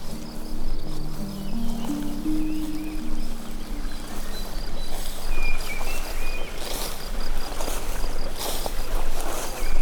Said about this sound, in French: Le ruisseau, les arbres,